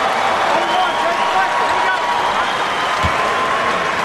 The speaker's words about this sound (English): hear the applause. A historic moment at Staples Center as Jason Collins becomes the first openly gay athlete to play in any of this country's four major professional sports.